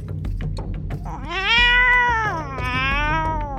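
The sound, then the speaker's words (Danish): Loud, drawn-out cat wailing from several cats sitting together, with long rising and falling yowls that overlap, sustained over a low rumbling background. “De sad alle sammen og jamrede højt.”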